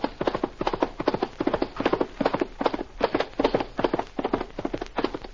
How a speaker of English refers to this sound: He mounts his horse and speeds on the first leg of the 2,000-mile trail to the west.